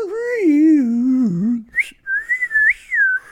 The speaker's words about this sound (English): and he had to battle with a woodwind of some sort. He had a slide whistle.